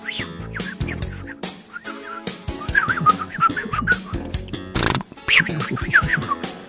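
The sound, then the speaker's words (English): Robot-like electronic beeping, R2-D2, heard at radio station WCWP New York when the door is open: a busy run of chirps, blips and warbling whistles sliding up and down in pitch, fairly loud and continuous, with no one talking. “I'm hearing a lot of beeps. That's what happens when the door is open.”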